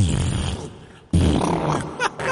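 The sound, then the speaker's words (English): A voice imitates a fart echoing in a hotel bathroom in Las Vegas, with two long, rumbling, sputtering blasts separated by a brief pause, the second one louder and buzzier, with no other sounds. “When I was farting in the fucking room, and all you heard like this.”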